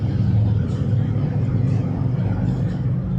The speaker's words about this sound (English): Like those motorcycles that come by every week and just blow us out. Give them a chance to pass by. I do get tickled when the motorcycles go by as a crowd and there's that one straggler on the tail end. Just finishes it all.